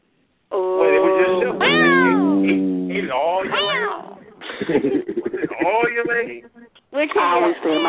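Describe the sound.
A cat meows loudly: long, wavering, drawn-out cries one after another, followed by a person talking and a final short meow.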